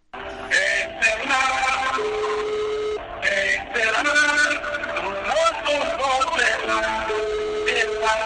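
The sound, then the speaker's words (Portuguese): The mobile phone ringback of an MPLA party militant plays a song instead of a plain tone: continuous, fairly loud music with singing voices, slightly tinny as if heard through a phone line. “É desta forma que muitos militantes ainda se apresentam quando ligas aos seus telemóveis.”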